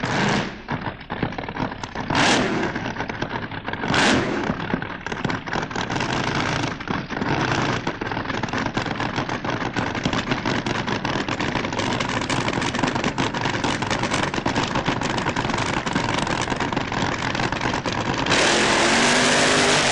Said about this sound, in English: First, Owen Haywood driving the SLD Oldins Hound Dog. 7-litre Chrysler with a Vega body, and the current car campaigned by the well-respected Nobby Hills.